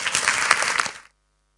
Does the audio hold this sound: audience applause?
yes